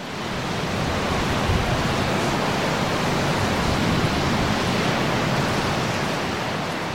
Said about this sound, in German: Dem Meeresrauschen könnte ich stundenlang zuhören.